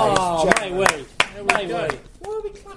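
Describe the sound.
A handful of sharp, irregular hand claps, about six spread over a few seconds, cut through people talking continuously underneath.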